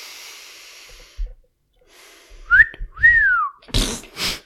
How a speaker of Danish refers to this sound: Hun fløjter.